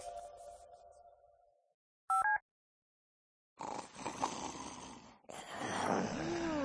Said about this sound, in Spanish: Está otra vez. Yo me lo cargo. Si en el confinamiento has aprendido que los ronquidos de tu pareja son insufribles, no cometas locuras